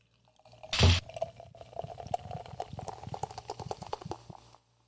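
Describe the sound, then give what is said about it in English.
A short loud burst of hiss, then about three and a half seconds of a canned drink gurgling as it pours into a glass with a fizzy, bubbling texture, no voices. “I mean, I'm gonna pour mine in a glass so that we can see the color and stuff like that.”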